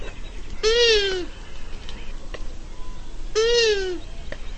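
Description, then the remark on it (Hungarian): Two drawn-out, nasal squealing calls of a female long-eared owl in courtship, each about half a second long and roughly three seconds apart, clear over a faint background hiss. “Ez pedig a nőstény nász hangja.”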